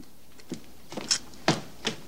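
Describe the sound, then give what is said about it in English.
A fridge door is pulled open downstairs by a man who takes out orange juice. A few soft knocks and clunks of handling follow, spaced out over a couple of seconds, with no one speaking. “Downstairs, wearing boxer shorts and a vest, he opens the fridge door and takes out some orange juice, which he drinks straight from the carton.”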